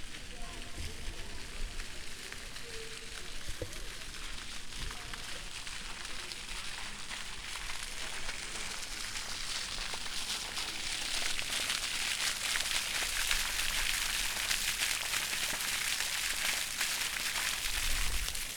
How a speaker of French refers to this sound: Il y a une fontaine active là, sur la place, avec trois jets qui sortent. Ça donne envie de se baigner là, ce son, je m'approche juste un peu.